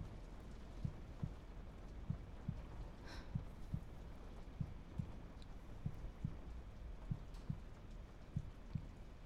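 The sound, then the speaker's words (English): A person's steady heartbeat thumps in a regular lub-dub rhythm, muffled, with paired low beats repeating about once a second over a soft hiss like rain. “Can you hear my heartbeat?”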